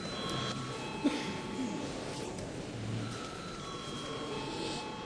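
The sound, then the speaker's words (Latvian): A parliament chamber's voting call bell rings in a steady, continuous electric tone for several seconds, with a faint murmur and shuffling of people underneath. The bell is rung to call deputies to vote on a bill in its second reading. “Paldies, lūdzu zvanu.”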